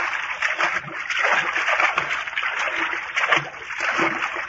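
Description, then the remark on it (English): Continuous splashing and sloshing through cold water, a busy, hissing wash of movement with irregular surges, steady throughout, with no voices. “You must be freezing in that water.”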